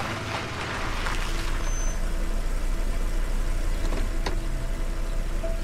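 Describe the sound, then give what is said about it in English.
A car engine idles steadily in a driveway after pulling in, a continuous low rumble with an even hum that holds the whole time, broken only by a couple of faint, brief clicks and no voices. “pulls into her driveway.”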